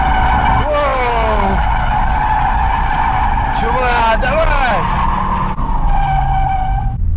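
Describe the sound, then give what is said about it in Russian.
A rear-wheel-drive car drifts with loud, sustained tire squeals that rise and fall in pitch over a constant engine roar, with a couple of sharper screeching bursts midway. A voice talks faintly underneath. “Ой, резину только жалко. Но когда поймаешь, это просто капец!”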